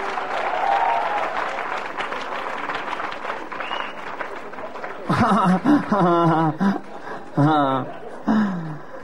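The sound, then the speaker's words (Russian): An audience claps steadily, a dense burst of applause lasting about five seconds that fades as a man begins speaking, with faint crowd sounds lingering under his voice. “И сейчас под ваши аплодисменты я познакомлю вас с программой передач на «Быдло ТВ».”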